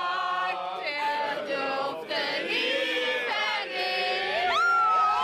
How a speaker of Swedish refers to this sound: Och folk står på västsidan och tar emot med kramar, jubel och applåder och allmän glädje och förbrödring.